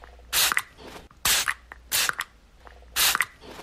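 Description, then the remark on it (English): A perfume bottle sprays four times in a steady rhythm, each short, bright hiss about a third of a second long and ending with a faint pump click, with quiet gaps between. “It's perfume. Dang. Perfume bottle.”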